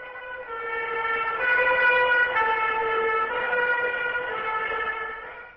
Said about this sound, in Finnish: Nyt saapuvat ambulanssit paikalle.